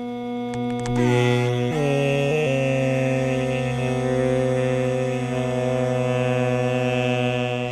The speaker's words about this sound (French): Donc au début, on va entendre simplement le moustique seul. Ensuite, la musique Drupad va commencer. Et on va bien voir que le moustique, vous allez entendre que le moustique suit vraiment le chant.